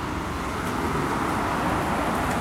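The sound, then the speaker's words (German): A steady, dense rumble of road traffic, with many cars arriving off a ferry and rolling past continuously; no distinct horns or voices, just a constant wash of engine and tyre noise. “Ah, jetzt ist die Fähre wieder gekommen, wie man hört. Kommen ja doch eine Menge Autos hier angefahren.”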